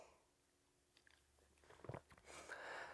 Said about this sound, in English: taking a sip of beer here myself.